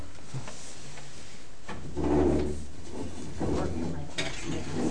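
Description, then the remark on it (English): A few rough scraping drags of chairs across a floor, in two or three bursts of moderate loudness, with faint room noise and occasional soft knocks between them. “drag some chairs over.”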